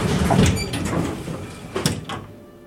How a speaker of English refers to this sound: The elevator goes up, and then at level 3, the doors open.